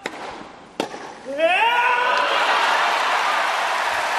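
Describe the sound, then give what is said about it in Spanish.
A sharp crack is followed by a loud, rising, sustained shout of triumph from a male tennis player at a key moment of the match, quickly swallowed by a roaring crowd cheering continuously until the end. “ese grito que mira cómo suena, porque lo ha gritado con el alma y se ha oído desde Murcia.”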